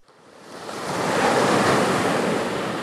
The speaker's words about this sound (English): The waves break against a seawall here at San Onofre State Beach.